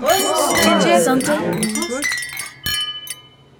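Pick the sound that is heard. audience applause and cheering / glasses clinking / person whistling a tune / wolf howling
glasses clinking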